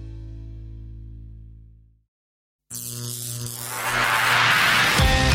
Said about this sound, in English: Stand by. The vacuum tubes are warming up.